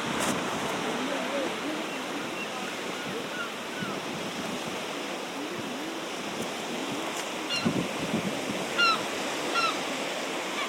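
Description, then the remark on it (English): Steady seaside ambience, with waves washing continuously onto the shore in a broad, unbroken hiss and a few faint higher chirps near the end; no clear voices stand out. “As you walk down the slope to the sea, if you're really lucky looking out to sea, you might see a seal.”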